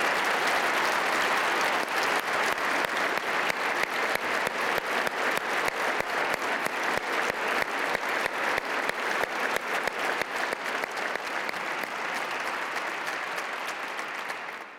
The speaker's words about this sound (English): Let's stop at this moment and just give them a round of applause, no matter where they are in Ohio.